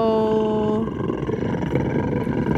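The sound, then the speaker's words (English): A person growls and snarls like a wolf, loud, opening with a tonal rasp that breaks into a rough, sustained roar lasting a few seconds. “I don't know why I wolf snarled at you, but that was, come on.”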